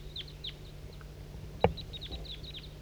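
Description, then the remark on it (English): A flock of birds calls continuously: many short, high chirps slurring downward overlap across the whole stretch above a low steady hum, broken once by a brief dull thump. “4-3 at the tail top is calling in a flock of birds.”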